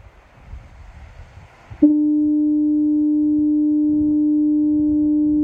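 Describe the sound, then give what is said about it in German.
A deep, steady lighthouse foghorn blast sounds in fog on the coast, starting abruptly after a soft wash of surf-like noise and holding loud and unbroken to the end, with low rumbling water beneath it. “Das ist das Nebelhorn des Leuchtturms gewesen.”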